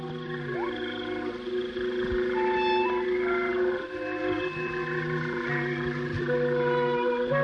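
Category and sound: animal, frogs croaking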